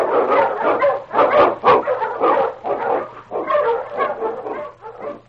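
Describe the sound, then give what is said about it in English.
A pack of Eskimo sled dogs, led by the lead dog King, barks and yips excitedly in a rapid, overlapping chorus, loud, with barely a pause across the whole stretch and no talking, while running through storm and snow in the Yukon. “Wonder Dog King, swiftest and strongest of Eskimo lead dogs, blazes a trail through storm and snow for Sergeant Preston as he meets the challenge of the Yukon.”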